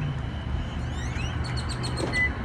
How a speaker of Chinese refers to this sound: 我们小区现在晚上啊已经是漆黑一片了， 听这个鸟叫。我经常晚上12点左右来这边来听鸟叫来。